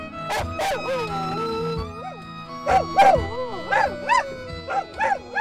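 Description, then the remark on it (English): A dog, Thurber, howls at the car radio in wavering, rising and falling bursts with a few sharp yips, paws on the center console and leaning toward the mic, over a steady background of music and tones from the radio. “And with his little paws on the center console, Thurber leans forward into the mic.”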